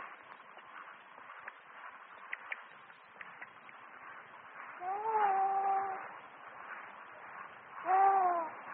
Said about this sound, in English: The bird call. I better answer.